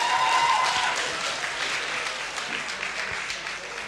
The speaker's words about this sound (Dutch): dames en heren, daverend applaus voor deze 5 dappere debaters.